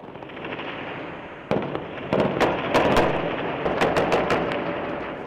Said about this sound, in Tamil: லிபிய தலைநகர் திரிபோலியில் இருக்கின்ற சர்வதேச விமான நிலையத்தை சுற்றி அந்நாட்டின் எதிரெதிர் ஆயுதக் குழுக்கள் ஒருவர் மீது ஒருவர் பல மணி நேரங்களாக ஷெல் குண்டுகளை வீசியும் துப்பாக்கியால் சுட்டும் சண்டையிட்டு வருகின்றனர்.